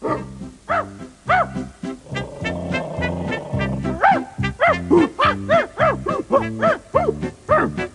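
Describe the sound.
Repeated barks and yips in quick, uneven bursts, several voices overlapping and fairly close, with a rough, strained quality suggesting people imitating dogs rather than real animals.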